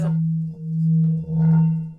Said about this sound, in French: Alors là, il y a le bol tibétain.